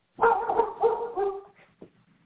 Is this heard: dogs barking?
yes